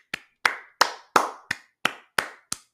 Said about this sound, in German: Einmal klatschen bitte.